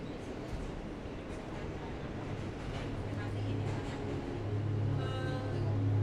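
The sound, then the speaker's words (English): A subway train riding through a tunnel toward Queens Plaza station rumbles steadily along, its dense low roar carrying a humming electric motor tone that grows louder, with a thin rising whine joining in near the end. “But riding the subway, very safe.”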